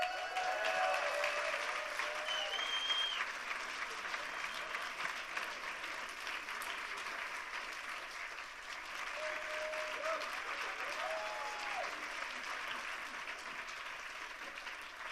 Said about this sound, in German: Ein großer Applaus.